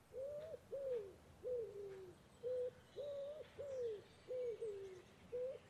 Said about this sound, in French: Eux, ce sont les pigeons ramiers. Et question alimentation, ils ne sont pas franchement difficiles. Ils peuvent se nourrir de feuilles, de bourgeons, de jeunes pousses et de graines diverses.